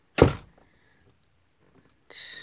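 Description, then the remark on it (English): A door bangs shut with one heavy, booming thud that dies away quickly. After a quiet pause, a brighter, hissing rattle follows for a moment. No one speaks. “Shut the fucking door.”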